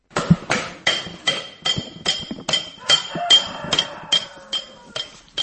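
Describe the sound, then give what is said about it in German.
A hammer taps a chisel chasing silver in a Cham silversmith workshop making silver objects for Cham ceremonies, about a dozen bright metallic strikes in a steady, even rhythm with a faint ringing tone between blows. “Mit nur einem Meißel und einem Hammer”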